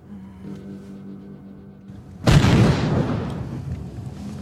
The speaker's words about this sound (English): So we're just on the road to Mosul and everyone's been stopped here and you heard that big bang. We think it's an IED that's just been exploded.